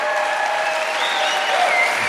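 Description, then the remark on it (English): Sustained audience applause at the Chan Center venue in Canada, a dense steady wash of many hands clapping at an even loudness, with faint cheers and whoops rising above it. “Give yourselves a hand.”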